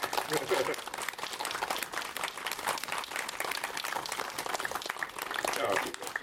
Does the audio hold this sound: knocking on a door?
no